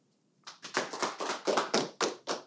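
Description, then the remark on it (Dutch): A brief round of applause: roughly nine sharp hand claps in a quick, slightly uneven rhythm, fairly loud, with no talking over them. “Oké, ja, en misschien wel een welverdiend applaus.”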